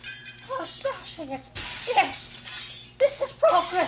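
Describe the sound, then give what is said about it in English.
Something is smashed twice at the Carousel Progress area, each a sudden crashing burst with a shattering edge, loud, while people talk over and between the impacts. “Smashing it.”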